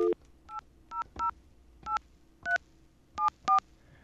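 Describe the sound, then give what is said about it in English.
A series of short touch-tone keypad beeps, about eight distinct dual-tone presses in an uneven rhythm, clear over a faint background hum with no talking, as a telephone dials the Verizon 1-800 customer service number. “If you ever call the 1-800 Verizon number, let's get a dial tone.”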